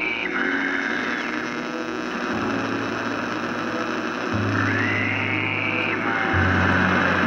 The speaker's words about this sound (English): your radio flares up again. So you hear it, and the static starts going crazy. You hear a voice again.